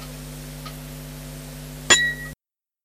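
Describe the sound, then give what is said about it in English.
A single short, high-pitched beep signalling the start of an aeronautical English exam, beginning with a sharp click and lasting under half a second over a steady low electrical hum, then the sound cuts to silence. “L'examen va commencer après le signal sonore.”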